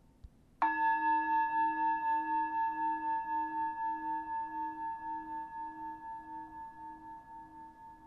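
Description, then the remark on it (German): A single struck virtual Tibetan bell tone from a mindfulness reminder app (MindBell on Android, Mindfulness Bell on iPad/iPhone) rings out with bright, steady harmonics, then sustains and slowly fades with a gentle pulsing shimmer over about eight seconds, no talking. “Ich lasse dich hören, wie diese virtuelle tibetische Glocke hier klingt.”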